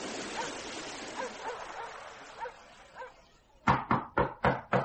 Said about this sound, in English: since when have you to knock on my door? Come you on in.